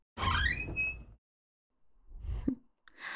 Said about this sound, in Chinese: 终于舍得开门啦，早就看到你溜回寝室了，敲这么半天门都不开。